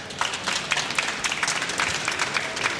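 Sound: audience applause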